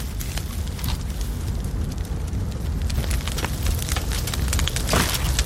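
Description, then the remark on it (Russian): A campfire outdoors in nature crackles steadily, sharp pops and snaps scattered over a dense low rumble of burning, with no voices. “Скажи, круто, да? Костер, природа.”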